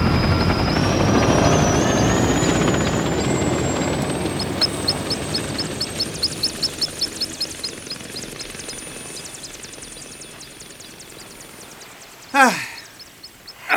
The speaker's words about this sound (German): Der Hubschrauber erhob sich und flog davon in Richtung Abendsonne.